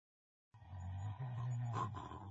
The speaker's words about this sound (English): He was snoring. The noise shook the cave.